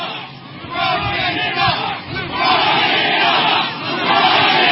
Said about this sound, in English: What a crowd. They're saying LeBron can't dunk? What are they saying? What a crowd.